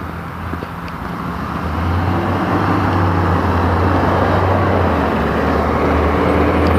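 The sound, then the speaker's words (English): A trash truck and a school bus rumble past on a chilly morning, their deep engine drone swelling after a couple of seconds and holding loud with no voices. “Trash truck, school bus.”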